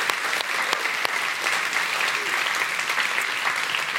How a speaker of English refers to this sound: And so I just want one more time. Can we applaud that youth group for doing that?